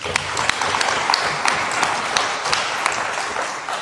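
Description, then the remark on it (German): Sustained applause from an audience, a dense crackle of many hands clapping at a steady, fairly loud level with no voices over it. “Dürfen Sie mal klatschen.”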